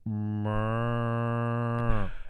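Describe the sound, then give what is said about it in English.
A single long, drawn-out moo from a sick cow, steady, with a strained, buzzing tone that brightens partway through before cutting off abruptly after about two seconds. “Now that's a sick cow. And you know that cow. Can you hear a cow sound like that?”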